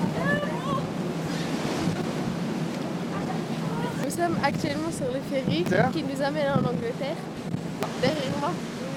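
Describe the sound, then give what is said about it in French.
Steady, loud wind roars across the deck of a ferry at sea crossing from Calais to England on a cold day, a constant blustery rush with people talking underneath it. “Il fait froid, il y a du vent, on est fatigué et on est sur le ferry pour aller en Angleterre, il fait froid, j'ai hâte d'arriver en Angleterre.”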